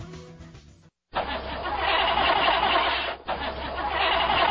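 A car engine cranks over and over without starting in cold weather, a loud grinding whir with one brief stutter partway through, following a short fading bit of music.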